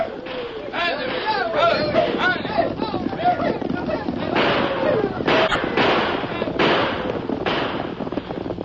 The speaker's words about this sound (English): Suddenly, the deserted streets of Jericho echoed with the hoofbeats of many horses. There were wild shouts and the thunder of gunfire.